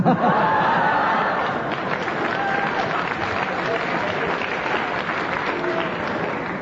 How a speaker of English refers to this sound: They heartily applauded, and the only thing I can do is they applauded so loudly, I have to agree.